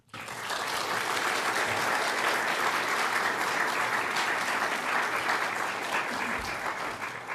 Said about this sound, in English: Please take a moment with me to applaud the work that they do.